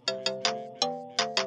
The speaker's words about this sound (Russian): О, СМС.